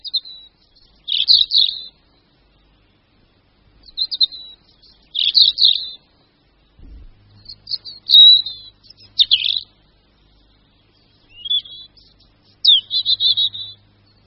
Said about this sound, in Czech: Tento melancholický zpěv vychází z hrdla jednoho z našich stále nejběžnějších a nejznámějších ptáků, červenky obecné. Červenka je veliká jako štíhlejší vrabec, je to nenápadně zbarvený ptáček z hora hnědý, avšak má cihlově červené hrdlo.